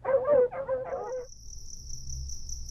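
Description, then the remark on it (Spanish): Fierce, drooling dogs bark in a quick burst of three or four loud barks as they chase hungry animals away, then fall silent, leaving a steady high chirping of crickets over a low background rumble. “Los pobres cacomixtles, hambrientos como estaban, quisieron ir por comida, pero solo encontraron disparos de escopetas y corretizas de feroces y babeantes perros.”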